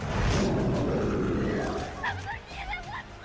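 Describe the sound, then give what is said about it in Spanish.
A loud, rumbling film-monster roar of a two-headed shark dominates the first half, then gives way to high-pitched women's screams and shouting in Chinese. “Eso que acabamos de escuchar antes de unos gritos de mujer en chino es el rugido de un tiburón de dos cabezas.”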